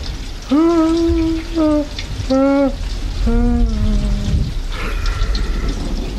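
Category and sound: nature, rain falling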